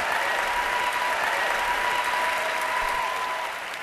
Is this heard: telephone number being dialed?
no